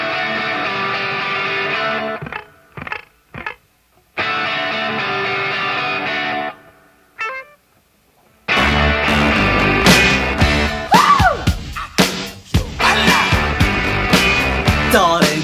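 A distorted electric guitar riff plays in loud bursts with short gaps, then a full rock band crashes in with pounding drums and driving rhythm, energetic.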